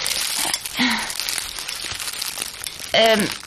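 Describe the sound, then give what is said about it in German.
A plastic bag of tomatoes rustles and crinkles steadily for a few seconds, with brief bits of voice breaking in over the crackling plastic. “Hier hast du die Tüte.”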